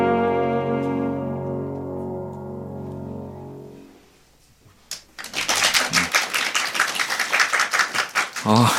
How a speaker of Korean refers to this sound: 근데 이건 효과음이 아니고요. 실제 네 박수 소리입니다.